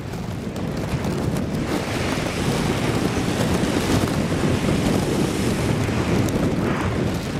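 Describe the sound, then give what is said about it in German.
Waves crash steadily against a reef on the main island of the Kingdom of Tonga and spray back out through blowholes of different sizes in the volcanic rock, with a continuous loud roar of surf and spray, buffeted by wind noise, with no voices. “Wellen prallen auf ein Riff und spritzen durch unterschiedlich große Löcher im Vulkangestein wieder hinaus.”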